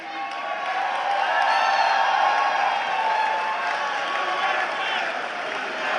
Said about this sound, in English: Everyone clapping in that audience is spiritually cucked.